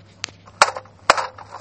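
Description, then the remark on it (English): Three sharp knocks on an apartment door, a light tap followed by two heavier raps about half a second apart, each with a short rattling tail over a faint low hum. “He knocked at the door.”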